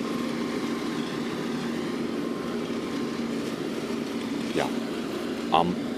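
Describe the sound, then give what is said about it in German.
A tractor towing a lawn mower attachment mows the grass in a park, its engine droning steadily with a constant hum, with a couple of brief higher chirps near the end. “genau genommen ist das ein Trecker mit hinten dran hängendem Rasenmäh-Ding”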